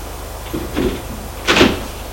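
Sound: bedroom door opening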